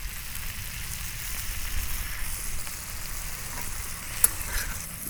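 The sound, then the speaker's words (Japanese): Yakisoba noodles, lightly stir-fried and loosened with a little water, sizzle steadily on a barbecue griddle, a dense crackling hiss with occasional stirring scrapes and one brief sharp tap near the end. No one speaks. “じゃあいよいよソースをいけるか。”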